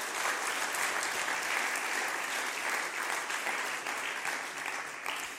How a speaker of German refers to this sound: Gib dir nochmal einen Applaus. Ja.